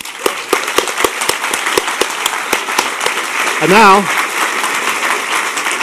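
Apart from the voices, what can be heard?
audience applause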